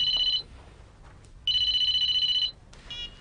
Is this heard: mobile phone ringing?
yes